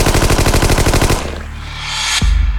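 A rapid burst of automatic gunfire fired into the water at sea rattles loudly for about a second, then fades into a rising rush of noise, cut off by one sharp crack and a low rumbling boom.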